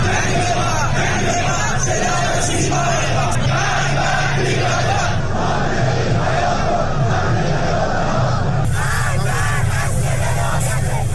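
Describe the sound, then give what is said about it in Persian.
A large protest crowd in Iran, demonstrating after the deadly collapse of the Metropol tower in Abadan, chants and shouts loudly and continuously, voices blending into a dense, rhythmic roar of collective yelling that carries on steadily throughout. “ادامه تظاهرات اعتراضی ایران به دنبال فاجعه مرگبار ریزش برج متروپول در آبادان.”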